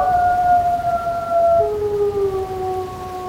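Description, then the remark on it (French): Several wolves howl together in a chorus, long sustained tones overlapping and slowly sliding lower in pitch, steady and fairly loud over a low, rumbling background. “j'ai pu entendre, et j'ai eu le privilège d'entendre ça, en fait, les jeunes, au début, ne savent pas hurler. Ils jappent comme des chiens. Et en fait, c'est un apprentissage aussi de hurlement.”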